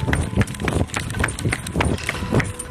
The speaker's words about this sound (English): I need to get next door. How do I get next door? I'll run. Open the door, eh? Running next door because the snake's moving next door.